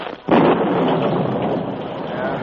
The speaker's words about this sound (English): As he rode, a sudden storm broke.